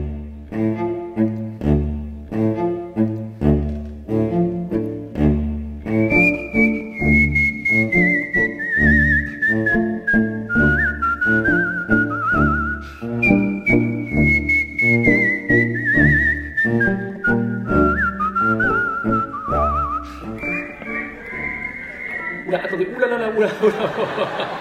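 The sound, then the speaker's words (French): A man introduced as a whistler whistles a clear, bright melody during an evening performance, with long sliding phrases, entering a few seconds in and carrying through to the end over a loud, steady instrumental accompaniment. “En ce qui concerne le sifflet ce soir, je fais le job.”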